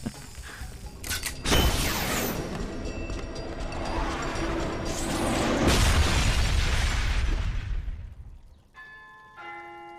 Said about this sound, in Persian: عاشق این سلاح‌های مدرنم. واسه یه مرد یه دست خیلی راحته که یه خمپار شلیک کنه.